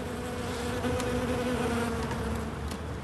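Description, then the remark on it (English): A steady, dense drone of many honeybees buzzing around rooftop hives on the roof of the Paris Opera, kept by a beekeeper, with faint higher whines of individual bees passing. No one speaks. “Tending his bees.”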